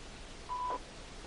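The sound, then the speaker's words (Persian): A single short electronic telephone tone, like a dial or keypad beep, sounds once for about a third of a second over faint background hiss, with no voices, signalling an incoming call on a phone line. “خب تلفن دیگر میگیریم، روی خط هستین بفرمایین.”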